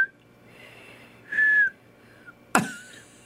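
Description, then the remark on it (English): Someone tries to whistle: breathy puffs of air break into a short, thin whistled note, followed by a sharp click and another faint, wavering tone. Fairly quiet, with no talking. “I've been practicing whistling.”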